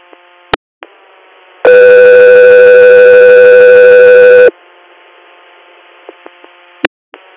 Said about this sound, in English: Scott 3 Air, stand by for tones.